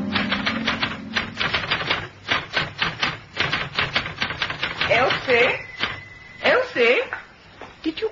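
Rapid, uneven typewriter keystrokes clatter in irregular bursts, with a brief high tone ringing out partway through and a few faint vocal sounds near the end, as someone types a story in the radio play The Weather for Murder.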